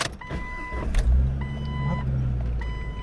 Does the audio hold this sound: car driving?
yes